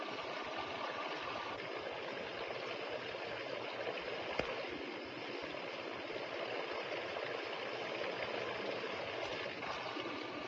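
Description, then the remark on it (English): Water drops fall in a Kelvin water dropper experiment, a system generating about 20 kilovolts, in a steady, continuous trickle, blending into an even splashing patter that holds at a moderate level throughout, with one brief sharp tick midway and no voices. “Kelvin's water drop experiment demonstrates for us that not only does the motion generate the electric field, but that the field also has a strong influence on the motions.”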